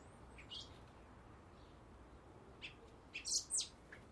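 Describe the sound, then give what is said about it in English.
Thin, high-pitched chirps of young blackbird chicks begging as they are fed come in short scattered bursts, building to a louder, insistent cluster near the end over a low, steady background hiss. “Squawk, squawk, mouth open.”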